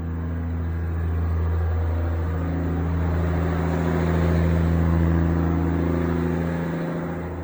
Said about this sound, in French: Là, je vais stopper la pompe.